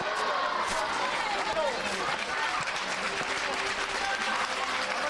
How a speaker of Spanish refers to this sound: Entre aplausos, muchas emociones ahora.